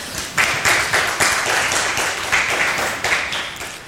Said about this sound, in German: So, erstmal vielen herzlichen Dank für den Vortrag soweit. Wir sind natürlich noch nicht fertig, aber ihr dürft ja gerne schon mal einen großen Applaus geben.